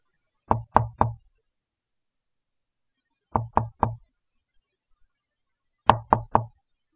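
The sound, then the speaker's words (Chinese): Three sets of three soft, rhythmic knocks on the front door of a home, evenly spaced with long silent pauses between them, quiet but clear against a silent background. “果然，尽管敲门的声音不大，但还是可以清楚地听到敲门的声音。”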